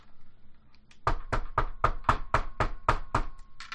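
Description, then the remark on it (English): A steady run of about nine sharp Foley knocks on a locked door, evenly spaced, loud and clear with no voices over them. “This door is definitely locked. I'm gonna knock on it.”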